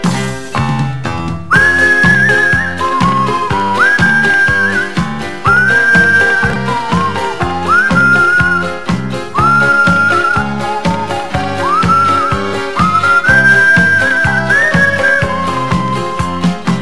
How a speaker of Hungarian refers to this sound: S minthogy taxit nem kapok, már csak baktatok, gyalog, fütyülve az út közepén.